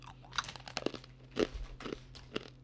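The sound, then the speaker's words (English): Loud crunching of a pretzel being chewed, with a rapid series of sharp, irregular crackly bites over a couple of seconds and no talking. “Man, that's a crunchy crunch. Just too much crunch and then there's a chew in it.”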